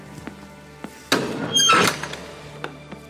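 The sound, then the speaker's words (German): Two light knocks on an imposing door at 12:02, spaced apart, followed by a louder rush of noise like the door being opened, then a few soft taps and thuds; no one speaks. “Ich zupfte die Jacke meines Anzugs zurecht und klopfte 12:02 an die ehrfurchterweckende Tür.”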